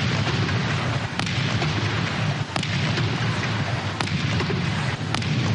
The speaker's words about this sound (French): C'est en ces termes que le président Muhammadu Buhari a prêté serment pour son deuxième mandat à la tête du Nigeria. Une prestation marquée par 21 coups de canon.